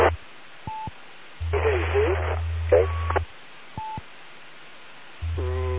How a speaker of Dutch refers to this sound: Dat staat beide zwaar in de ruis. Ik meende iets van GXD te horen, maar ik weet het niet zeker.